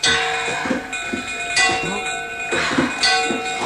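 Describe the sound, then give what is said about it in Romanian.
A bell is rung repeatedly, its strikes landing every second or so over a continuous metallic ringing that hangs in the air, with faint muffled voices or commotion underneath. “Bate și tu clopotul!”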